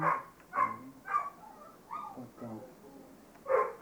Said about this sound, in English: Dog seems to be making noise, a lot of noise over nothing.